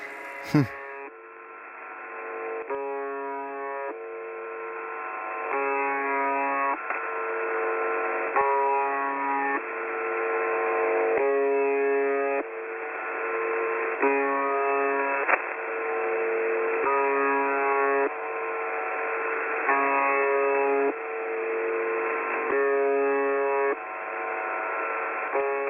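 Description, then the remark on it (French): A harsh, nasal shortwave radio buzzer drones on in a steady chain of short buzzes, roughly one every second or so, with a thin, band-limited radio tone and no voices. It comes from a mysterious transmitter that sends this sound 24 hours a day. “Fameux buzzer qui est un drôle de signal qui m'a intrigué pendant très longtemps.”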